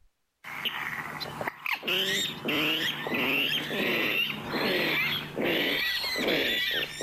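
A rough, grunting bird call repeats in short raspy bursts, sounding more like a pig than a songbird, with fainter chirps and a steady hum in the background.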